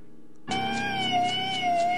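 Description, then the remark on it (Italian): An ambulance siren of Matiopoli cuts in abruptly after a brief quiet moment, holding a loud, steady, harmonic wail with a slight wavering in pitch. “Sì, l'avrete riconosciuto, è l'ambulanza di Matiopoli, Sì, all'interno, anche l'ambulanza di Matiopoli è finita all'interno.”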